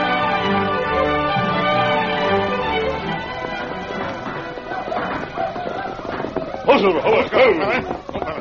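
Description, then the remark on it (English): Galloping hoofbeats of Silver, the Lone Ranger's great horse, thunder in over the last few seconds, loud and irregular, following a sustained tonal, music-like opening. “From out of the past come the thundering hoofbeats of the great horse, Silver.”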